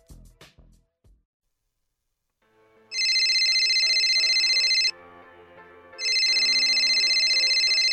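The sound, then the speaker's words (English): A telephone rings loudly: two long, bright electronic trills separated by a short pause, following a few faint clicks and a moment of near silence. “Hey, Kaylee, can you get the phone?”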